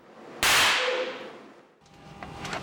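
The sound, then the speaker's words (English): A tiny amount of TATP, a readily made explosive, weighing less than a staple, detonates with one sudden, sharp crack that trails off in a hissing decay over about a second, followed by quieter crackling noise. No voices. “It weighs less than a staple, but even a tiny amount packs a powerful punch when it explodes.”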